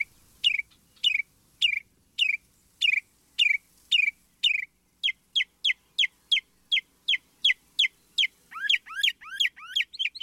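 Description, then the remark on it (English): A resident northern mockingbird, beginning its spring singing, sings alone, repeating one sharp, high note several times, then switching to a quicker series and ending with rapid sweeping chirps, all loud and clear. “Meanwhile, as early as late January, some resident birds are beginning their spring singing, especially in the southern states. Like this northern mockingbird.”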